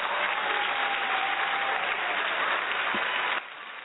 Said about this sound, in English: Now, I had to give you applause for that one, brother